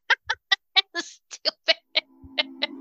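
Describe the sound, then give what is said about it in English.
A voice imitates a chicken clucking, saying "bok" in a quick, steady string of about ten short, punchy syllables, fairly loud, while a low hum creeps in toward the end. “You know why Beethoven got rid of his chickens? No. Because all they said was bok, bok, bok, bok, bok, bok, bok.”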